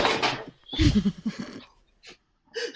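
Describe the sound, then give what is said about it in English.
A painting crashes down from a wall with a rattling clatter and a heavy thud, almost hitting a dog, followed by a few scuffling, breathy noises and brief rustles. “My painting fell off the wall.”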